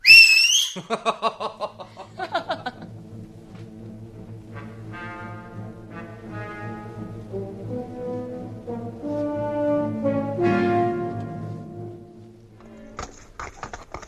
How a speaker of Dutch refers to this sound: Ik fluit op mijn vingers. Kijk zo.